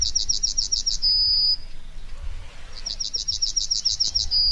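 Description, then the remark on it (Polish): A yellowhammer (Emberiza citrinella) sings two songs in mid-July, each a quick run of short, high, repeated notes ending in one long drawn-out tone, clear over a soft, low outdoor rumble. “Nieco większy od wróbla, z łaciny Emberiza citrinella.”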